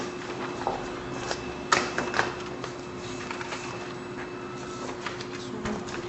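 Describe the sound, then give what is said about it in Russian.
A printer whirs and clatters as it feeds out a single sheet of paper, with steady mechanical hum and a series of sharp clicks and ticks, moderately loud, no talking. “Нет, там у меня один листик должен выйти.”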